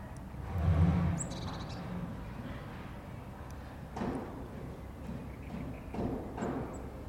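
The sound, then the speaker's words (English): A few crows caw outdoors in a garden, scattered harsh calls rising briefly over a steady low background hum, with no one speaking. “There we go, got birds.”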